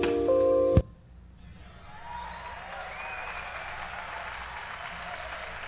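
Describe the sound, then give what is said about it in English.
A short burst of loud tones gives way to a steady, even hiss across the whole range: standard white noise mixed in at 30 decibels below digital zero, with faint wavering tones from the original recording barely showing through beneath the added noise. “And we just mixed in the standard white noise source at 30 decibels below the digital zero.”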